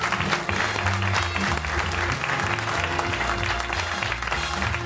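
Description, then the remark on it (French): Steady, sustained applause from an audience as Mireille Dumas comes to join the show, a dense wash of clapping that stays loud throughout, with low musical tones underneath and no clear speech. “Que je vous demande d'applaudir et qui vient nous rejoindre.”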